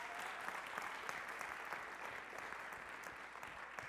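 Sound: audience applause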